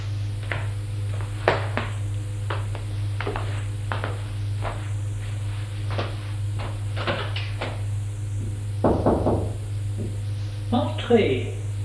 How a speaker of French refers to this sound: Je suis le domestique qui ouvre une porte qui donne dans un couloir beige avec plusieurs portes.